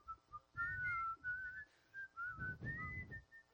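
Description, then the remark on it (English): A clear whistled melody concluding a 1968 hit single drifts through a short, relaxed phrase of gliding notes, carried over a soft, low musical backing with no voices. “uses whistling to conclude his 1968 hit single,”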